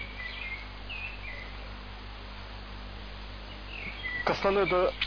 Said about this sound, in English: A blackbird came to us to sing. Thank you, dear.